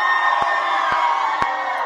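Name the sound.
children's crowd cheering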